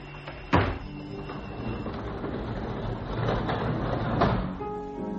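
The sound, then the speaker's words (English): A secret panel slides open with a sharp knock at the start, then a long grinding, rumbling scrape that swells and ends in another thud. No one speaks. “All I heard, the secret panel.”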